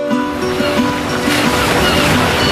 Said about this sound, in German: hört man am Anfang Meeresrauschen und Möwen.